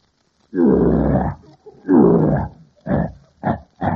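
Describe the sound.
A voice imitates a lion's roar: two loud, drawn-out bellowing roars followed by three short, gruff grunts in quick succession, forceful, with nothing else heard.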